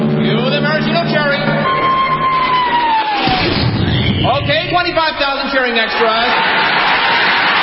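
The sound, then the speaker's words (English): A descending whistle as a 10-ton maraschino cherry is dropped into whipped cream ends in a dull thud, then a loud, dense roar of cheering and shouting from 25,000 extras carries on steadily to the end. “Then the Royal Canadian Air Force will fly overhead towing a 10-ton maraschino cherry, which will be dropped into the whipped cream to the cheering of 25,000 extras.”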